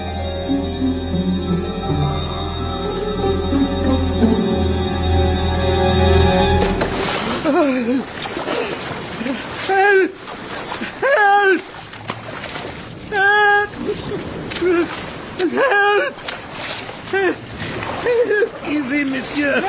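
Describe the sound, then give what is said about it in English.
A low, sustained musical drone gives way to loud, churning splashes of someone thrown into rough seawater by a collision, with voices crying out in short bursts over the turbulent sloshing. “Then that collision threw you into the sea, too?”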